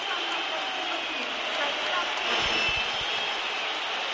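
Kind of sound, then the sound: crowd, stadium crowd whistling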